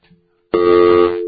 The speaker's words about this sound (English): Can you just give me a dial tone? I'm just going to see if we have a problem on our end.